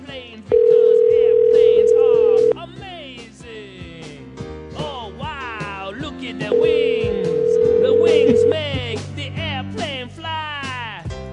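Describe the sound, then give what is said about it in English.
A phone line rings out with two long, steady electronic ringback tones about four seconds apart, fairly loud, while voices murmur underneath and no one picks up. “Oh, he's still avoiding phone calls.”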